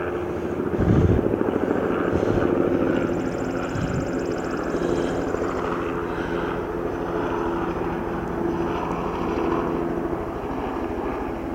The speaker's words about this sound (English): That helicopter is really flying low. I wonder if something happened up on 495, and maybe that's a medevac. Don't usually see them that close and that low here.